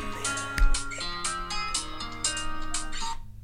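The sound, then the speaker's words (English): A phone ringtone plays a bright, rhythmic electronic melody with a steady beat, fairly loud, looping continuously with no voices over it. “Oh, because his iPad started ringing too.”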